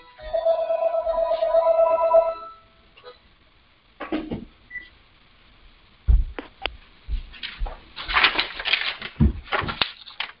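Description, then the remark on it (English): A mobile phone ringtone chimes steadily for about two seconds with an incoming call from Flipkart Health, then cuts off, followed by handling noises, rustling and clunks as the phone is fumbled with to turn it off. “Let me turn this phone off.”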